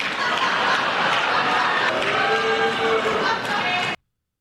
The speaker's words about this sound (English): Because Donald Trump actually did get an applause line out of Democrats last night.